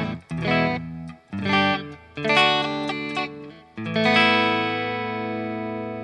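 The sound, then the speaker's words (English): A Strat electric guitar playing a few clean, ringing chords in short bursts, ending on a sustained chord that fades slowly with a slight reverb tail; no voices. “So it has got a slight bit of reverb.”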